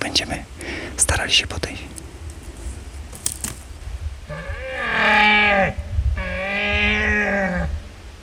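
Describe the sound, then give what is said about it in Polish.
Two long, deep bellowing roars imitate a red deer stag in rut, each rising and groaning for over a second, with no stag answering. Soft whispering and rustling come before them. “No, chwilowo nie odpowiada, ale na razie jeszcze nie jest jakieś takie mocne rykowisko, żeby one reagowały na każde ryknięcie.”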